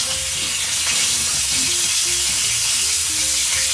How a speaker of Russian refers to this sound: Так, вот я обваляла с двух сторон и накладываю в сковородку. Вот, главное, да? Не обжечь палец. Конечно. И надеюсь я... Ой, у нас тут стреляет масло.